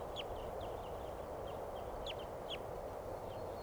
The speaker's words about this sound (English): Birds are going down for water now, right at the corral. Chittering and...